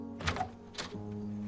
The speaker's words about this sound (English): She watches him walk to his door and open it.